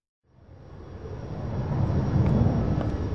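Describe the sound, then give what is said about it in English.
A low, broad rumble of aircraft noise at the airport in Dublin swells steadily from silence and grows louder, like a plane passing, with no voices present. “Inspector Smith is from London, but today he's at the airport in Dublin.”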